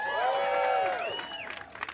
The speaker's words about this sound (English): I heard that cheer. We can do that.